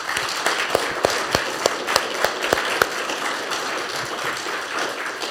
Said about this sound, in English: I want to thank these brothers for all that they've given for us this weekend. And if we could give them one more round of applause and just express our thanks to them.